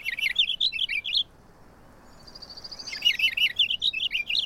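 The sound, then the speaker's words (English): A purple finch sings two brisk, rolling bursts of warbled notes, clear, separated by a short pause with a faint higher trill, over quiet background hiss. “Compared with house finch songs, purple finch songs are faster and roll along smoothly as a brisk series of warbled phrases.”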